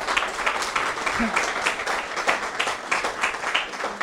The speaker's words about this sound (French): Je crois qu'on peut vraiment les applaudir, hein